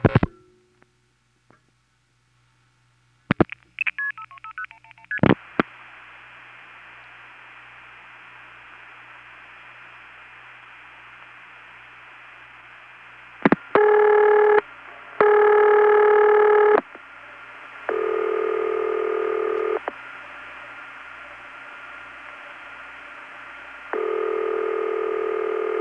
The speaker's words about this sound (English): Well, that second ring is a bell system standard ring. It's High City Ring. Which, through that very attenuated long distance connection, sounds like this.